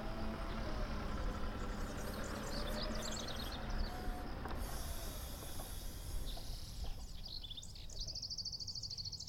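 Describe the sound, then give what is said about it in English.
A tractor engine rumbles steadily and continuously, with birds chirping high above it. No one speaks. “Can you hear the rumbling of a tractor?”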